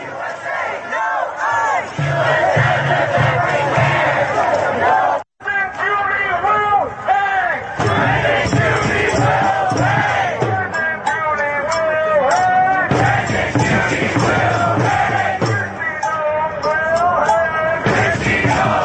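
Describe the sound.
A large crowd yells and cheers continuously, many voices overlapping in loud, rising shouts, with a brief sharp break around five seconds before the roar resumes at full strength.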